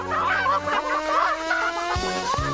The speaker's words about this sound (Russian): Ой, кажется, я слышу, как куры кудахчут. Вы видите кур? Где? Прямо позади нас?